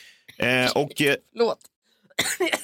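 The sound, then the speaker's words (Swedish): A few short, voiced coughs and throat-clearing sounds in quick bursts, fairly loud, with a brief pause before a final rougher cough. “Bara någon pratar om pengar så börjar du hosta.”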